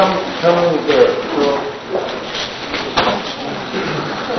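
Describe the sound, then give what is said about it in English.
Chairs scrape and shuffle across the floor in a busy, overlapping clatter as several people move them forward to the front, with murmuring voices underneath. “Powinniście znaleźć sobie krzesło i przenieść to krzesło tu do przodu.”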